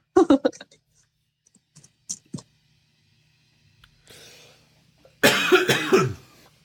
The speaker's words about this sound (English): Sorry, everybody. I just had to cough and mute myself because I'm the link to all the different types of audio.